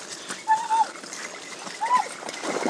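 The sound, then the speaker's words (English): Two dogs, Jodie and Hudson, splash in and out of a shallow puddle, making short bursts of sloshing water, with faint voices and a couple of brief tonal chirps mixed in. “They're heading in and out of a puddle at the moment.”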